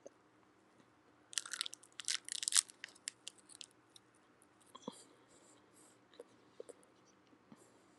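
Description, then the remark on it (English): Someone chews a crunchy granola bar: a dense burst of sharp, bright crunches in the first few seconds, then softer, scattered crackles and chews spaced irregularly until the end. “I know, you can hear me eating.”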